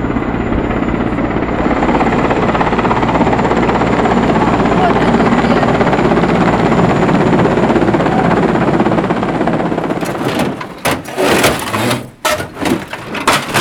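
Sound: helicopter hovering overhead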